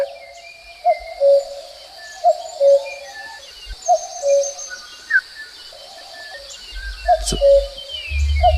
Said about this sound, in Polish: Co to za głos? To jest który? To jest głos właśnie samca kukułki. Godowy.